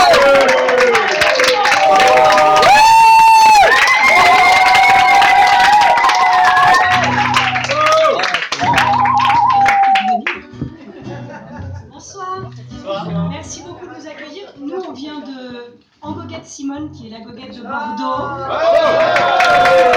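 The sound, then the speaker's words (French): An audience at a goguette claps and cheers loudly for two performers doing their first goguette, a dense wash of applause with whoops on top, then the clapping thins into scattered sounds and voices before swelling again. “Je vous demande d'applaudir chaleureusement parce que les deux font leur première goguette,”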